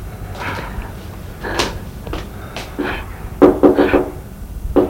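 A series of knocks on the wooden door of the neighbouring bedroom, a few scattered raps followed by a quicker cluster of four or five firm thuds near the end, over a faint background hum.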